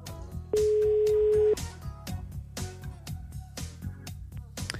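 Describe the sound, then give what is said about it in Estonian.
A single steady telephone ringing tone sounds for about a second, loud and clear, as Tre Raadio calls a birthday listener drawn by lot, over a rhythmic music bed that keeps playing throughout. “meie hakkame nüüd helistama ja helistame sünnipäeva lapsele, kelle me oleme välja loosinud.”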